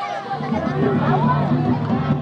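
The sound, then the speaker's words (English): A crowd of adults heckles loudly after the power goes out during a video screening, many voices overlapping in a steady jeering babble that fills the whole short stretch without a pause. “And then the power goes out, and the crowd heckles.”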